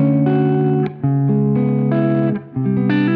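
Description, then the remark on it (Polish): Overdriven Gibson electric guitar played through an amplifier, driven harder by a stronger signal from its pickups at unchanged settings: loud, gritty sustained chords that shift a few times, each ringing out with brief dips between changes, with no talking. “O, słyszycie jak przesterowuję? Dokładnie te same ustawienia, większy sygnał z przetworników.”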